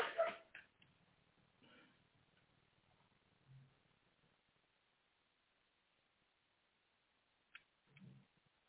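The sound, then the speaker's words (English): A dog barks sharply once, then lets out a few softer, scattered barks and yips with quiet pauses between them, muffled. “My dog has his own opinions as well.”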